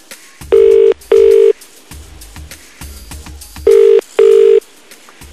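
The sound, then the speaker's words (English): A telephone ringing tone purrs twice in a double-burst pattern as an outgoing call is placed, each pulse a steady, loud mid-pitched buzz, with soft clicks and low rumbling in the pauses between rings. No one speaks. “Right, let's give him a call then, see what happens.”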